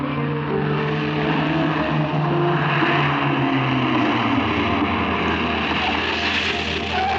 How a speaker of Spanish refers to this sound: Poco después, un auto se detiene a cierta distancia del hotel en donde se aloja Calimán. Desciende de él la encantadora, diminuta y juvenil Geisha enviada por el doctor Kiro. Hato, desde el volante, le da órdenes.